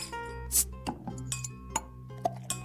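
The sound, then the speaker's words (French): Glasses and dishes clink on a small drinks trolley loaded with drinks and snacks, a series of bright, ringing taps at irregular intervals over a faint low hum, with no voices. “Dolores a rempli un petit chariot de boissons et divers amuse-gueules.”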